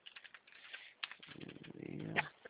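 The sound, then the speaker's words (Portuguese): Rapid, uneven clicking of keys on a computer keyboard, moderately quiet, with a low murmur of voices or background rumble rising briefly underneath midway through. “Digitando aqui, ó.”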